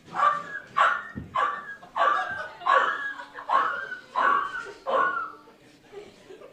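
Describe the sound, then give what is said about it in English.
A person's voice imitates a dog yelping as if being beaten: about eight sharp, whiny yelps in a steady rhythm, each sliding downward in pitch, before trailing into quiet. “All right, here's an impression of somebody beating the shit out of a dog.”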